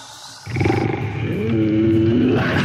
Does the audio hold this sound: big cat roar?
yes